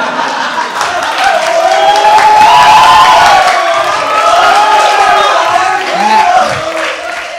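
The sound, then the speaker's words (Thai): A large audience shrieks and screams together in a sustained, loud wave, with high-pitched cries rising and falling over a dense crowd roar for several seconds. “ทำเวลาไม่ได้เพราะต้องรอเสียงกรี๊ดเงียบเดี๋ยวเวลาจะหมดซะก่อน”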